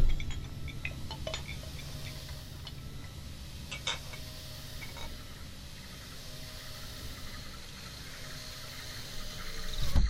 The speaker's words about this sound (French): Bah écoutez, tout ce que je peux faire, c'est baisser la vitre de la voiture à la vitesse minimum, hein.